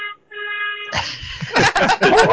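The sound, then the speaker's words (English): A dog lets out several quick, sharp barks in the cab of a moving truck, following a steady, droning blast of the truck's air horn at the start. “Oh, and there's the dog.”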